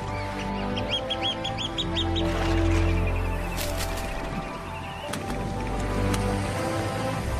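A flock of birds calls over a tidal mudflat in Hwaseong, Gyeonggi Province, South Korea, in an open, breezy space, with a quick run of repeated chirps early on and scattered calls and quacking sounds over a steady low background rumble. The birds have flown tens of thousands of kilometers across the sea.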